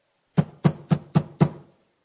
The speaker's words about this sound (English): Knock. Knock.